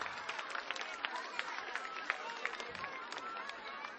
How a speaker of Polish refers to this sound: No, zwycięzcy powoli dochodzą. Brawa dla nich, gorące brawa.